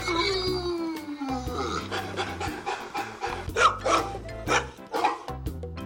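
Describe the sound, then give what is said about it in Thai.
Several deep, loud barks from a giant-breed dog burst out at irregular intervals, mixed with some panting, over a steady bed of background music. “วันนี้เป็นเรื่องราวของหมายักษ์บิ๊กไซส์ไจแอนท์ที่ใครเห็นครั้งแรกก็อาจจะกลัวนะคะแต่ว่าถ้าได้รู้จักกันจริงๆแล้วก็จะรู้ว่านี่คือหมาที่อบอุ่นแล้วก็ใจดีมากๆเลยล่ะค่ะ”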